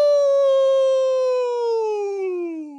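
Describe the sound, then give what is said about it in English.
A person's voice imitates a wolf howl: one loud, sustained call lasting nearly three seconds, starting high and gliding slowly downward in pitch, with no other sounds. “He let out a loud howl.”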